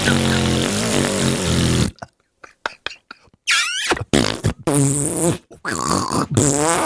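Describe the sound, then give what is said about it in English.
A voice blows a long, wet raspberry imitating a fart, as a joke about brown noise, followed by several shorter sputtering bursts with brief pauses between them, loud. “That's brown noise. Fart.”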